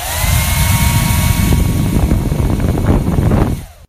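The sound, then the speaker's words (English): A hairdryer runs loudly and steadily, a continuous breathy rush of air over a high motor whine with faint wavering tones, cutting off abruptly just before the end. No voices. “Is it a hairdryer? It is a hairdryer!”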